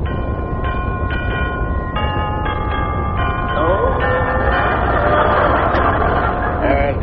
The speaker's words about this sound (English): Let's ring the doorbell.